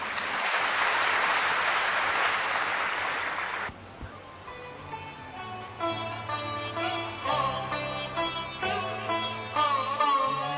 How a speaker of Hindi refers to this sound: आप सब इतने प्यार से इस सेशन में शामिल हुए, आप सबका धन्यवाद, अपने लिए तालियां बजाएं।